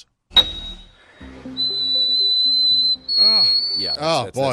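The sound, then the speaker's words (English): After a brief spoken phrase, a recorded male voice holds a piercing, whistle-thin note, an E in the eighth octave at 5,243 hertz, for a couple of seconds. It then pushes the note slightly higher as other voices talk over it. “An E in the eighth octave, audio frequency 5,243 hertz.”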